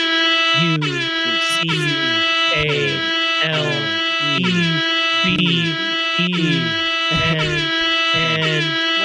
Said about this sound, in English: It's about the air horn.